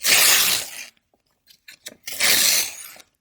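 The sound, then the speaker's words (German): Two loud ripping bursts as the printed outer paper layer is torn off a slightly damp milk carton, each under a second, separated by a short pause with a few faint crinkles and clicks. “Dann kann man nämlich die erste Schicht, da wo so drauf steht, Milch von der glücklichen Kuh, die kann man da so abreißen.”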